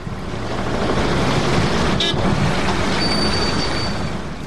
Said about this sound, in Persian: پدر جان، این موترها چرا در اون طرف سرک پشت در پشت قطار ایستاده هستن؟ چرا حرکت نمیکنن؟